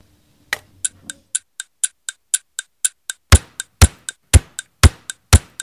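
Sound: clock ticking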